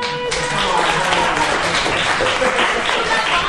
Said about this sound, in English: And can we just have, before we move forward, one more round of applause